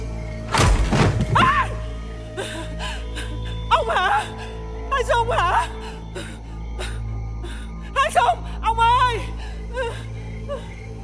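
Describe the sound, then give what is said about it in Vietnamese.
A wooden stool is knocked over by a woman's clumsy feet as she stands up. It topples over with one loud, heavy crash near the start, followed by her faint gasps and whimpering sounds over a low steady hum. “đứng dậy, chân khua vụng về như thế nào đó làm ngã cái ghế đẩu sang một bên. Đánh rầm một cái làm da gà da vịt”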